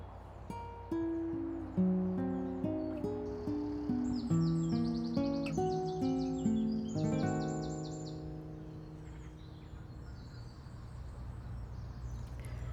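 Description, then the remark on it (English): Birds sing outdoors on a sunny May morning, with bright chirping phrases in bursts over a steady layer of lower tones. The song is fairly loud for the first several seconds, then thins and fades. “And I'm listening to the sound of the birds, which are getting louder and louder as we move into May.”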